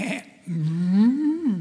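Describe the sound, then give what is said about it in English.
A person's voice imitates the noise of sheep and cows, a short syllable and then one drawn-out, rising and falling moo-like bleat, fairly loud, with no other sounds around it. “And then Samuel notices these sheep and these cows making their little noise.”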